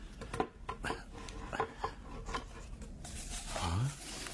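The lid of a small box is worked open: dry wooden rubbing and scraping with a few sharp clicks, ending in a short rising creak, all at a moderate, steady level.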